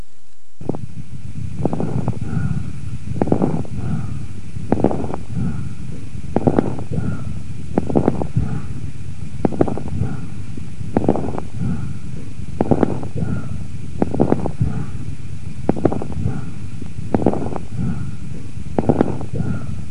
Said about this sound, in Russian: Поэтому этот тип дыхания представляет собой грубый высокочастотный шум, выслушиваемый в обе фазы с преобладанием выдоха. Прослушайте бронхиальное дыхание у больного с правосторонней крупозной пневмонией первой стадии заболевания.